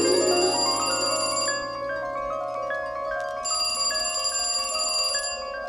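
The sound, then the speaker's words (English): A telephone bell rings loudly in two long bursts separated by a short pause, with a steady tonal hum sustained underneath. “Get on your white horse, dear, or pick up the phone.”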